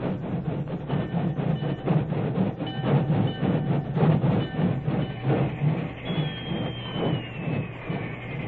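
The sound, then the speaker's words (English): A work train rolls in on the main track beside the Medicine Hat telegraph station in a light drizzle, with a steady rumble and rhythmic clattering chuffs, and a thin, high engine whistle sounds over the noise in the final seconds. No one speaks. “It was only a short time later, and the rain was barely a drizzle, when an engine whistle announced the work train's arrival on the main track beside the Medicine Hat telegraph station.”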